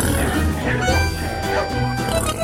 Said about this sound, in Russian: Мне показалось, или я слышал хрюканье? Пойду скорее туда.